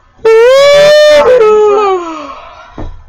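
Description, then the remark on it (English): A loud, drawn-out voiced yawn with the microphone held about two inches from the face, starting abruptly at a high pitch and sliding gradually lower for about two seconds before trailing off, followed by a short breath. “Wow, look at my yawn.”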